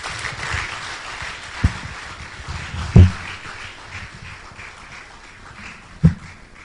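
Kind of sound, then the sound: crowd, audience applause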